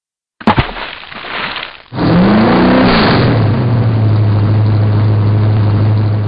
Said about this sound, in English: Ah! It's a guy with a chainsaw! Let's get out of here!